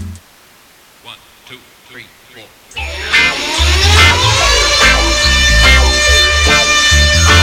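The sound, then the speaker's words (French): After a few seconds of near-quiet with faint murmurs, a loud song set in New York kicks in, and an emergency vehicle siren wails through it, its tone sweeping up and down over the beat. “Et voilà, c'est pareil, il y a une sirène, ça se passe à New York, donc il y a des sirènes qui traînent.”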